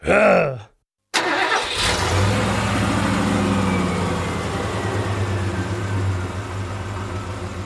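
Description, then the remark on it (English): After a short sliding tone and a moment of silence, an engine abruptly roars to life and settles into a loud, steady rumbling idle that continues to the end. “Fire up the engines, because we're out of here like a jackalope on his wedding day.”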